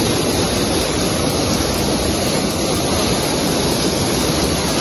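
rushing river water

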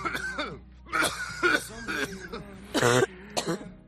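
persistent coughing

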